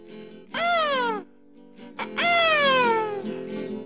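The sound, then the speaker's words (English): A voice in a song imitates a mynah bird call with two loud, descending squawks, the first short and the second longer and drawn out, with a brief pause between them. “The minor bird says”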